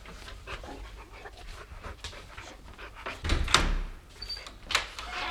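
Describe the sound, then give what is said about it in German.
A door opens with a short burst of creaking and rattling partway through, while a dog pants and shuffles throughout. “Lass uns rein, schnell! Tür zu!”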